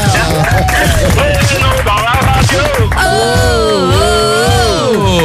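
An audience claps steadily in a dense, crackling wash, loud throughout, with voices and wavering tones rising and falling over the applause.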